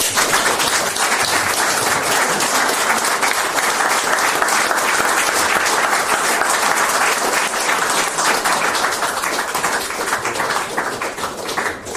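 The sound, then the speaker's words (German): Loud, sustained applause from a large audience at the end of a public talk as the speaker hands over to the hostess fills the whole stretch, a dense crackle of many hands clapping steadily without a break, full. “Ganz herzlichen Dank und ich darf an die Gastgeberin mit einem tosenden Applaus übergeben.”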